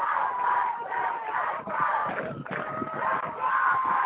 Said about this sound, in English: As you can see, you can hear the crowd. It's getting loud around here. Mustang crowd is getting loud. Common crowd getting loud.